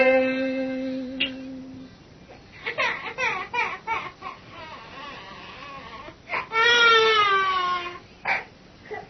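An infant sobs and wails in broken, high-pitched bursts at the gate of a quiet Buddhist temple, with a long rising cry near the end. A steady tone sounds faintly at the start before the crying begins.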